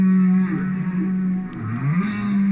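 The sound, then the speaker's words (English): Recorded humpback whale song played by biologist Roger Payne at home in a wood-paneled living room in Vermont: a loud, sustained low moan that wavers, dips and rises again in pitch, with harmonic overtones and brief higher squeaks, continuous and unaccompanied by speech. “He's at home in landlocked Vermont, listening to the songs of his beloved humpback whales in a wood-paneled living room.”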